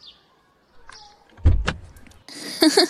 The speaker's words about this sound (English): I'm not climbing all the way over you to the driver's seat, though. Get out and open the passenger side door for me like a fucking gentleman.